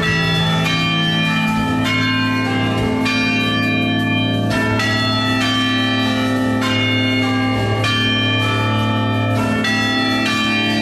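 Church bells ring out a steady, rhythmic melody resembling a rock tune, with rich overlapping tones and a constant low hum beneath, loud and continuous with no voices.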